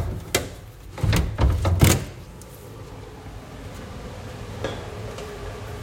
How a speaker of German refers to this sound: Ich glaube, wir können die Tür auch noch aufmachen.